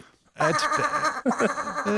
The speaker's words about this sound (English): That's our Ricky Seals-Jones blended with a sheep